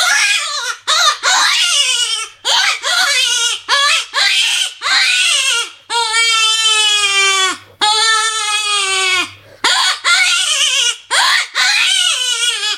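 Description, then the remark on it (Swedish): A blown hunting lure call imitates a distressed crying infant: loud, wavering wails in quick bursts, then two long sustained cries, then more short bursts, with no talking. “Man när jag kör med den så låter det som ett spädbarn som gråter.”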